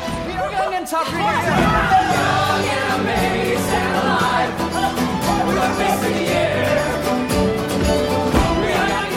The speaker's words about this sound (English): The play blends real news footage, here the sounds of cheering protesters in Tahrir Square, with musical recreations, here that moment on stage.